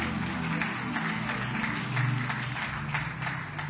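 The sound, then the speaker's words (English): An audience claps their hands together after a prayer, clapping for the King of Kings, in a steady, dense wash of applause, with a low sustained hum of organ or music underneath and no voices standing out. “I said, clap your hands for the King of Kings.”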